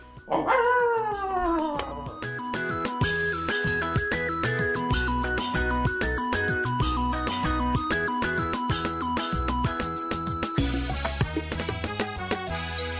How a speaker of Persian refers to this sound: این دو سگ ما. آره سگ ما صدا کرده.